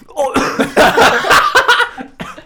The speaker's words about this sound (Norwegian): Ekte respons. Hoster. Det er ikke så sterkt da, guys. Du takler det ikke så bra.